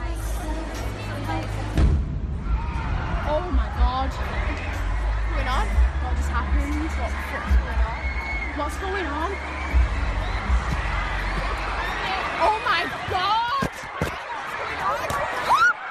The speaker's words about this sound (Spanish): Eran las 10:30 de la noche. Había 20.000 criaturas en este concierto. El sonido de las explosiones lo registraba un teléfono celular.